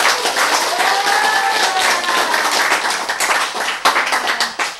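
An audience breaks into loud, sustained applause, dense overlapping claps filling the whole clip, with a few faint voices and a brief whistle-like tone rising out of the noise.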